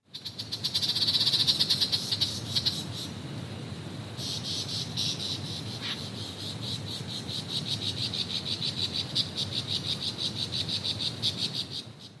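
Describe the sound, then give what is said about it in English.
A male superb lyrebird, a large songbird found only in Australian forests, pours out a dense, layered medley of mimicked calls: buzzing trills, rapid high chirps and pulsing croak-like notes overlapping continuously for about twelve seconds, fairly loud, with no talking. “All of those different sounds were made at the same time by a single male superb lyrebird, a large songbird found only in the forests in Australia.”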